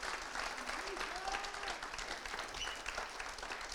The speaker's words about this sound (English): Come on, if you're going to clap, let's do it like for the glory of God.